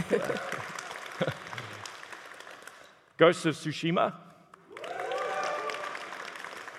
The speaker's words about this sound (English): So God of War Ragnarok. Yeah, you can clap. Come on.